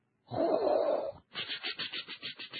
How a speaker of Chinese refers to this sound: 随着一阵撞击声、翅膀的扇动声以及灰尘轻轻落下的声音，第四只猫头鹰从厨房的壁炉里冲了出来。